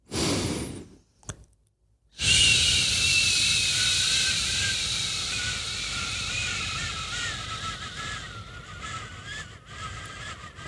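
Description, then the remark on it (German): After a brief pause, a long, slow hissing exhale from a breathing exercise that lengthens the exhalation runs steadily for about eight seconds, a thin whistling tone threaded through it, slowly weakening before it cuts off. “Ich mache oft Atemübungen, also verlängere einfach die Ausatmung.”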